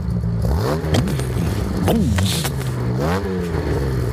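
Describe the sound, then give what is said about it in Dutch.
The 3.8-litre inline-six engine of a Jaguar E-Type, fed by three SU carburettors, revs up and settles back several times, its throaty pitch swelling and dropping in short bursts, fairly loud with no talking. “Drie carburateurs, gewoon drie dikke SU-potten gewoon op een 6-lijn hier.”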